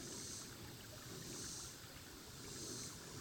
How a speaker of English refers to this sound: I just love this spot on the walk, because I'm down to the bridge. I'm getting ready to turn around, but I just love the sound of water.